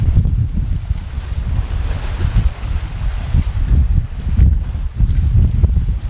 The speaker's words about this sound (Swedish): Härliga vågskvalp från havet.